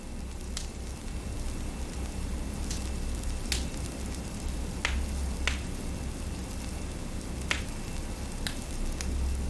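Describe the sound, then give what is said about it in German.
A warm fire burns steadily with a low, continuous rumble, broken by sharp, irregular pops and snaps scattered throughout, moderately loud with no voices. “und in der Mitte brennt ein warmes Feuer.”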